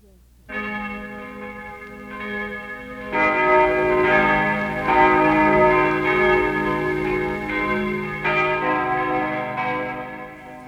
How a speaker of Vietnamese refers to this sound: Sau buổi chầu thánh thể, chuông trong chủng viện nổi lên vang lừng.